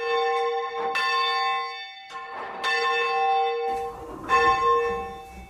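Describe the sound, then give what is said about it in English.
A church bell being raised into the upward position for full-circle ringing, one bell after another after chiming, struck about three times at a slow, steady pace, each bright clang humming on and overlapping the next. No one speaks. “Once we have finished chiming, we then raise the bells one by one into the upward positions, ready for full circle ringing.”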